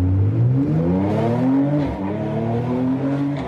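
A car engine revs loudly and steadily, its pitch climbing in repeated sweeping rises with a brief dip midway, with no voices over it.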